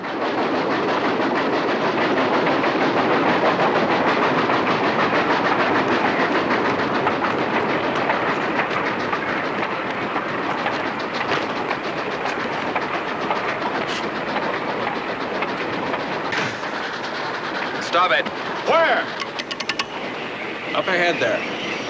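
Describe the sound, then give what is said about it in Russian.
A moving Union Pacific train, train 473, rumbles steadily, its wheels clacking over the rail joints in a fast, continuous rhythm, loud, with brief sharper metallic squeals toward the end. “Со скалистого откоса Санданс прыгает на крышу вагона и бежит по поезду к паровозу.”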